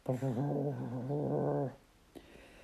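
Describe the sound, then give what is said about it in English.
A human voice imitates a fat teddy bear's growl with one drawn-out, wavering rumble lasting under two seconds, fairly loud, then it stops abruptly into near silence with a faint click. “"I shall growl for them. Listen.”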